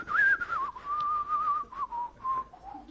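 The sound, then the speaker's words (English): A person whistles a slow, sliding melody in the style of a spaghetti Western theme, clear, with no talking over it, for about three seconds. “You know, it's like, I can't whistle, my mouth's too dry, but you know, all the theme tunes of the spaghetti Western.”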